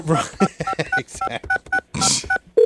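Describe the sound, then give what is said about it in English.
A phone number is punched in quickly to call Bob Kraft, a rapid run of about a dozen short, beeping touch tones, followed by the start of a steady lower tone on the line. “Anyway, we need to call Bob Kraft now.”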